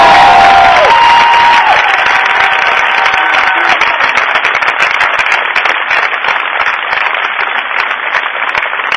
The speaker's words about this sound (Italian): Allora un bacione, un applauso per tutti.